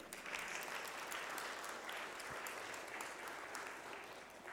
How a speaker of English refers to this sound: But now I also want to thank all of you, all of us who have behaved ourselves so well, sitting quietly and listening to the children. Can we clap for ourselves?